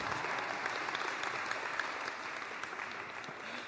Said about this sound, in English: Well, from third grade, with my grandma in assistance next to me, I present to you the Norwich Terrier. I was waiting for applause, but